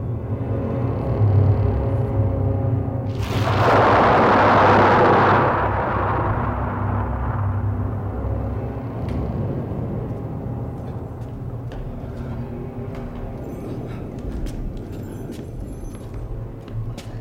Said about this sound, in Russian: Другой конец степи. Буря продолжается.